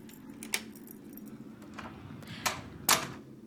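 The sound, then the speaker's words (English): Keys jingle and clink in a few bright, metallic bursts, the loudest two near the end, over a steady low hum with no talking, as a key is got out to unlock a door. “Okay, so if you just wait a few moments, I have a key. And we'll be going in this door right here.”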